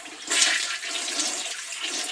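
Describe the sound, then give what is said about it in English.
A toilet flushes with a loud rushing surge of water that swells quickly, then keeps gurgling and hissing steadily as the bowl drains. No one speaks. “Yeah, that's where things like this go, right down the drain.”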